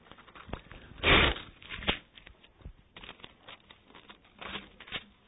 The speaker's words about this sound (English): I'm having the hardest time turning the pages in my Bible.